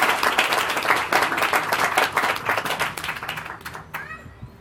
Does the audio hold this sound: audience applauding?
yes